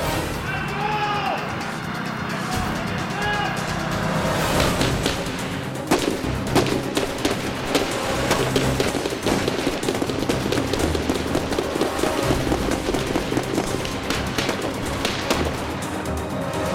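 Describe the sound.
A sustained barrage of gunfire from a heavily armed man in a trailer at a trailer park, bullets passing an explosive propane tank: dozens of sharp, rapid shots crackle in a dense, uneven stream for about ten seconds, loud, after a few seconds of voices and background noise.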